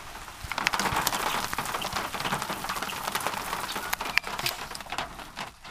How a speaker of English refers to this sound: You can hear the blackbird rain hitting my car in this recording near a flock of great-tailed grackles.